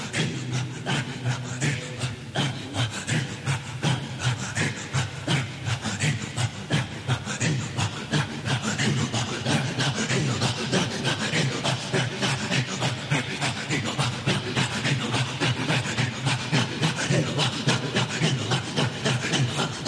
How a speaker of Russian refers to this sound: Полагают, что именно к Хизру восходит исавийский вид громкого зикра, известный как зикри-арра, зикр-пилы, и названный так из-за скрежещущих звуков, издаваемых во время обряда.